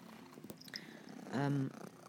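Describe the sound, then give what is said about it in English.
A cat makes one short, loud, rolling purr lasting under half a second, with a few faint taps before it. No one speaks. “excuse this cat.”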